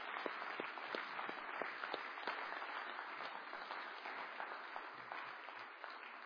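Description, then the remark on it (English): An audience at a morning church service breaks into sustained applause to thank those who have served the nation, many hands clapping in a dense, steady wash with a few sharper individual claps standing out, holding at an even level throughout with no voices heard. “And I would encourage all of us this morning to just give a round of applause to thank those who have served.”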